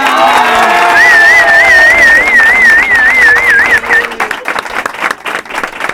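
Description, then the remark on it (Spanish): A crowd of young people, students of the IES Torrevigía in Torrevieja visiting a studio, cheers and claps loudly, with a shrill warbling whistle trilling above the noise for a few seconds before the applause breaks into scattered claps. “Y es que hoy no estamos solitos en el estudio, sino que hemos enviado una invitación a un instituto de Torrevieja y oye, que no se han podido negar a venir, así que una fuerte ovación al IES Torrevigía de Torrevieja.”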